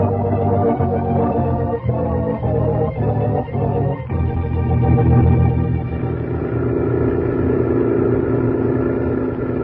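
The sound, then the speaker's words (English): A truck with tilted-up headlights drives through the desert, its engine droning steadily, a deep rumbling hum that shifts pitch midway as if changing gear, continuing without pause and with no voices. “He's tilted up the headlights on the truck.”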